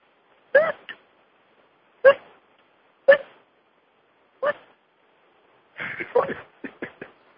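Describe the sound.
A person imitates a dolphin with short, squeaky vocal bursts: four separate chirps spaced apart, then a quicker cluster of chattering squeals at the end, with no words spoken.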